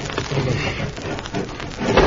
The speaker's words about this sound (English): Now we'll push that bed behind the dresser so it'll be firm enough to tie the rope to.